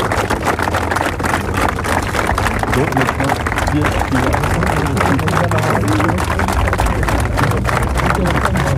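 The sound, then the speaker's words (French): A long, steady burst of applause from a large crowd after the reading of a text dating from 2006, many hands clapping densely and loudly without pause, with a murmur of voices mixed into the noise throughout. “Voilà, longs applaudissements, mais savez-vous bien, Walter Bassan lit ce texte qui date de 2006”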